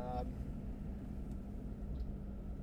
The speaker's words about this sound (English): a little bit of the revving of the engines and slowing down.